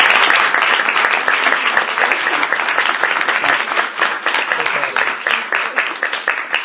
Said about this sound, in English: Give her another round of applause, will you please?